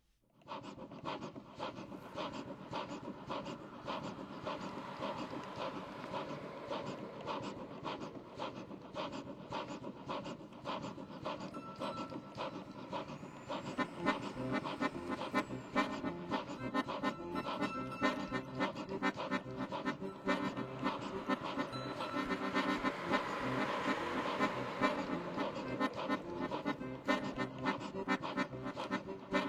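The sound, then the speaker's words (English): At the start of a song, an old steam train chugs steadily along the tracks, a dense, rhythmic stream of breathy puffs that grows louder about halfway through and keeps its fast, even beat to the end. “It starts with what I think sounds like an old steam train chugging along the tracks, perhaps winding its way along the coast, as I'm sure I can also hear the sound of the sea in the background.”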